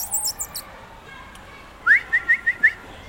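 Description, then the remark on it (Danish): A person whistles a quick run of five short, bright notes in an even rhythm, clear, to test whether an otter reacts, following a moment of faint high chirping in the background. “Og så plejer jeg lige at fløjte lidt og lave sådan et lyde, fordi det skal han jo helst ikke reagere på.”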